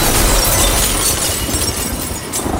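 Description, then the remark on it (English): A loud crash of shattering glass as an apartment window blows in during a 60-mile-an-hour storm, sustaining as a dense, rushing roar of breaking and scattering debris for a few seconds, with no voices. “It makes an insane noise, it shatters glass, whoa.”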